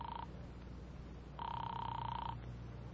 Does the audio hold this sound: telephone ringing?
yes